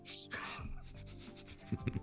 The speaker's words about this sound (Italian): Ti posso dire che è alta un centimetro e mezzo ogni volume. Sì, per cui tenuto conto da... Sì, sarà, diciamo un 150 pagine... Per darti un'idea, i due volumi che cadono fanno questo rumore.